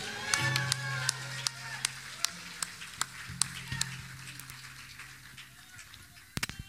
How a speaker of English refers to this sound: Hallelujah. Let me hear you give another shout to the Lord.